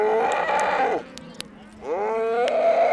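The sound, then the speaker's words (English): Cattle moo loudly on a ranch in Harney County, southeast Oregon, two long drawn-out bellows with a brief lull between them, the second rising in pitch before holding steady. “And before these cattle can be let out to graze on summer range, the young animals have to be branded, castrated, and vaccinated.”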